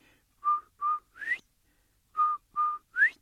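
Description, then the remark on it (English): A person whistles an imitation of a quail's call, twice: each phrase is two short level notes followed by a sharp upward-sliding note. The whistling is clear, with a pause between phrases and no talking. “Now, in the summertime, if you're out in the woods or out there and out in the field, if you hear this beautiful whistle, look around because you'll see Turtle walking toward that sound”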